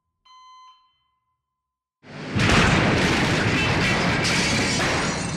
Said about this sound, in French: Une explosion à l'intérieur secoua l'infirmerie, projetant des morceaux de ferraille dans l'entrée.